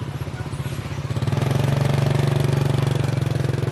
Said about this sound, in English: We followed him on his motorbike down dirt tracks through the rice paddies and come to his house set about by trees.